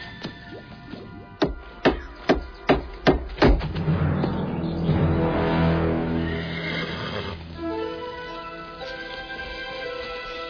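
horse neighing and whinnying

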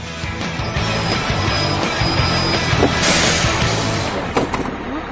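bus arriving

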